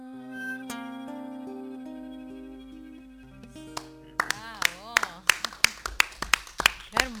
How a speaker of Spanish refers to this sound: Lo tengo cerquita, muchas gracias, gracias por los aplausos.